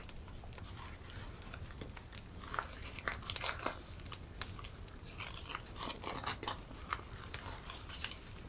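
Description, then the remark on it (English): Paper crinkles and crackles in a steady run of soft, irregular rustles with sharper snaps now and then as the paper wrapping of a gift, a small tin of treacle fudge, is peeled away at the corners. The sound is quiet and there is no talking. “Peeling the corners of the paper away,”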